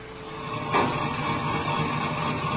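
A tractor clearing land where a young couple will live drones in a steady, gritty mechanical rumble with no talking, and a brief louder clank or surge breaks through early on before the running noise settles back.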